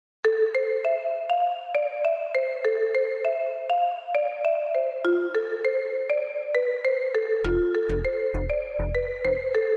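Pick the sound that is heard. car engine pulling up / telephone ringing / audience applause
telephone ringing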